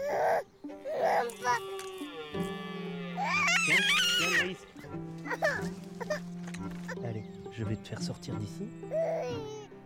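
A baby fusses and cries in short, whimpering bursts, rising to a louder wail midway, over a steady low background hum.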